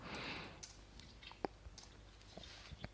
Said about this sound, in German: Ich klicke mich gerade durch.